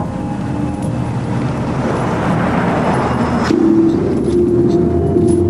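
A taxi's engine hums steadily amid dense road traffic, its pitch shifting partway through as it pulls out behind a silver Mercedes edging out of a parking garage and accelerates into the flow. The noise is loud and continuous, with no voices.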